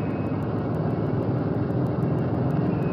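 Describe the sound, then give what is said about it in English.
A heavy propeller bomber's number 4 engine starts up and roars, a loud, steady, rumbling drone with a faint rhythmic throb running through it and no voices. “Props clear. Okay, starting number 4. Roger, it's all clear. We're starting it now.”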